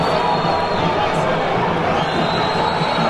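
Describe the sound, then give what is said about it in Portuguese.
A large stadium crowd boos at Beira-Rio during a Brazilian league football match involving Inter, a dense, sustained wash of noise, loud and continuous throughout, with the broad jeering quality of mass booing echoing across the stands. “olha a vaia aqui no Beira-Rio, hein? Ouça a vaia.”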